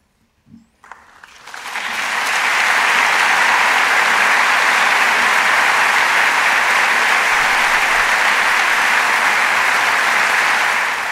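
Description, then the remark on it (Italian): A large audience at the Teatro alla Scala on 25 April breaks into applause for a reading by young Piccolo Teatro actors during a concert, swelling over the first two seconds into a dense, sustained wall of clapping that stays loud and steady to the end, with no talking. “L'applauso del pubblico del Teatro alla Scala il 25 aprile alla lettura da parte di”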